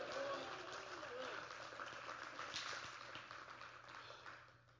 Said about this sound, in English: Would you clap your hands and shout hallelujah? Hallelujah.